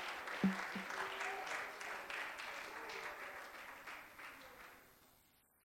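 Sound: audience clapping hands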